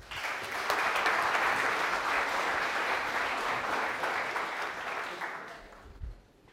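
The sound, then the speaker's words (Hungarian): An audience applauds to welcome a lecturer before his talk, a dense wash of many hands clapping at an even loudness for about five seconds before tapering off, with a low thump as it ends. “Köszöntsük őt egy tapssal!”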